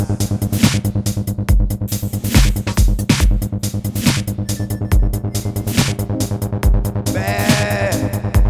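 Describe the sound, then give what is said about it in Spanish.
A wavering goat bleat rises near the end, riding over loud, busy background music with a steady thumping beat; no one speaks. “Cabras no las ganas paseando, ni tampoco escalando.”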